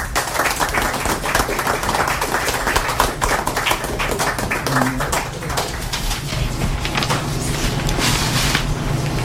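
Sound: audience applause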